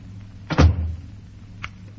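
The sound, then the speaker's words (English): A door as someone leaves through it: a heavy thudding clunk as it swings and shuts, followed about a second later by a short, sharp latch click, over a low steady hum. “Go on, you can go now. Out the other door.”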